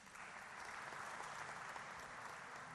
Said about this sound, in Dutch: Dank ook aan onze burgemeester, Ahmed Abu Taleb, die onze gastheer geweest is in deze. Hij mag ook een applaus van u ontvangen.